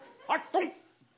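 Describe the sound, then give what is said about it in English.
Two quick, sharp dog barks in close succession, moderately loud, followed by a brief faint whimper and a quiet background. “Here comes the dog, you know.”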